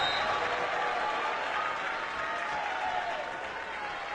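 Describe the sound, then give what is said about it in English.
The Dort College crowd, on their feet after a kill makes the score 22-15, cheers and claps steadily for several seconds, a dense, loud wash of applause with scattered shouts that stays level throughout. “The Dort College crowd on their feet.”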